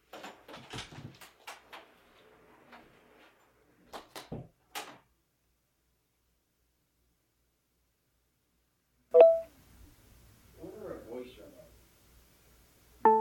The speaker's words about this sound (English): So I will be back shortly. I'm going to leave my room and close the door.